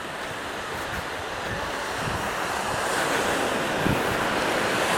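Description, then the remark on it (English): Ocean surf washes steadily onto the shore in a continuous broad roar, swelling slightly louder partway through, with some wind buffeting the microphone and no voices. “The one who made this ocean, the oceans, made the earth.”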